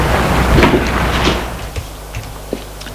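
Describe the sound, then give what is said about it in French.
A door is opened by a servant after a ring at the door, with a soft scraping rustle that fades after about a second, followed by a few small clicks and knocks from the latch as it settles. “La porte s'ouvre, c'est le domestique.”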